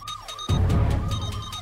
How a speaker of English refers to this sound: That's our breaking news sound. It's dolphin related.